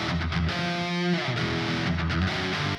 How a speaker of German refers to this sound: Und du hörst tatsächlich, auf der rechten Seite ist jetzt der Nachhall und auf der linken Seite ist das trockene Signal von unserer Gitarre.